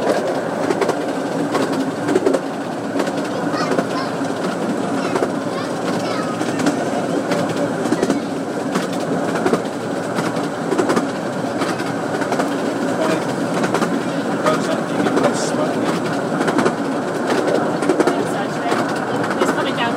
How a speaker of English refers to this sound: This is a steam train. It's a miniature railway. I think it's 1/3 the size of a normal one.